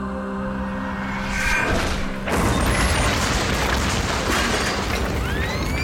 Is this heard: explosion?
yes